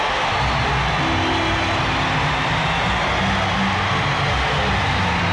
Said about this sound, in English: Lights are kind of dim right now on the stage. Lights are out in the hall. You can hear the crowd.